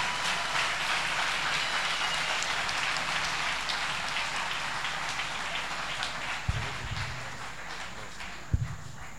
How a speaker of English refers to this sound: Et pendant qu'il monte, acclamons le Seigneur. As he's coming, let's clap to the Lord.